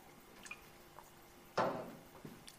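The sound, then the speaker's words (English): A quiet sip of water by a speaker: a few soft wet clicks, then a brief slurping swallow and a small liquid gulp at the end, with no talking. “Sorry, some water.”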